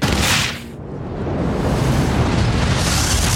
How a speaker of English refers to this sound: The wall in front of Grace glows red hot. Brace yourself, she yells into the Major's ear. The wall bursts, and there's a roaring rush of air as the atmosphere rushes into space.